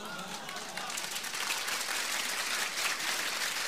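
An audience claps together in a dense, steady burst of applause that swells slightly after the first second and then holds at an even, full level until the end.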